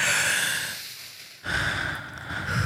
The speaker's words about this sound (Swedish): Gud vad jag bara behöver ta ett djupt andetag. Kan vi inte göra det tillsammans? Kan vi inte bara andas?